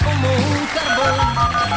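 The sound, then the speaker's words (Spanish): A telephone rings with a loud electronic tone that steps between pitches in a repeating melodic pattern, filling the short moment with no one speaking. “Vamos al teléfono.”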